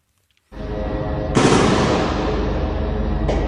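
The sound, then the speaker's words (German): Loud, dense gunfire rattles continuously like automatic weapons, growing heavier after a moment and holding steady with a harsh crackle. It is heard in videos of Israeli combat units entering the grounds of the Al-Shifa hospital in Gaza City at night. No voices are heard. “Schüsse sind in den Videos zu hören, Explosionen sind zu sehen.”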